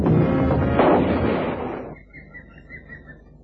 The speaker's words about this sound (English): I had to shoot. Your bullet did its job